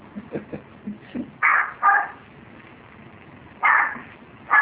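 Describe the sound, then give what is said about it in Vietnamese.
A small Chihuahua shut inside a house yaps in short, sharp bursts, a few quick low yips followed by several louder, higher barks spaced out, with no talking. “Nó muốn sủa là nó sủa thôi.”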